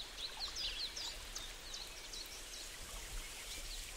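Many birds chirp in quick, high bursts in the branches of an oak tree, busiest in the first second and a half and then fainter and sparser, over a steady rushing hiss like running water.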